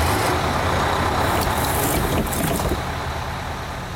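A large bus engine idles with a steady, loud low rumble, broken by a few short hissing bursts like air brakes releasing; no one speaks. A passenger bus in Canada bound for Winnipeg on 30 July 2008, a trip of about 24 hours, as a passenger boards.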